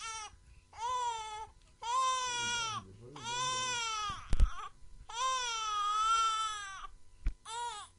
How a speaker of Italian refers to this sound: Strazianti note del pianto del bambino risuonarono mentre Suor Palmira lo portava al convento